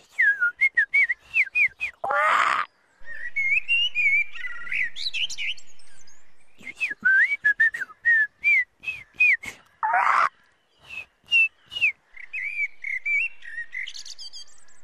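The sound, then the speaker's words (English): A person in a garden on a sunny, hot Saturday whistles a quick, chirpy run of notes imitating birdsong, with trills and warbles in short bursts, broken by a couple of breathy gusts, fairly loud. “I can talk bird, actually. Yeah, listen to this.”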